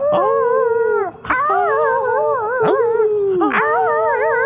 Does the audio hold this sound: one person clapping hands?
no